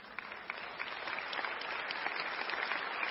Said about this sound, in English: You can clap for that.